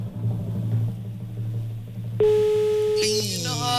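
A steady, electronic telephone ringback tone, the fourth ring of the call, rings out loud and clear for about a second after a stretch of low background rumble, followed by a brighter, higher tone as the call goes unanswered.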